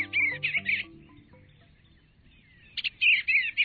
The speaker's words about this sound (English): It's a wistful moment when your backyard swallows or bluebirds depart each fall, like the tree swallows we're hearing now.